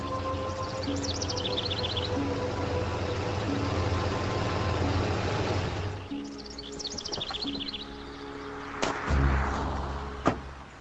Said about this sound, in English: There'll be a tow truck anytime now, you'll see.